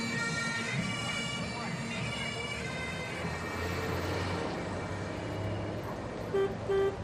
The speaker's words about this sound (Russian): Гудок автомобиля заставил Джейка вздрогнуть и очнуться.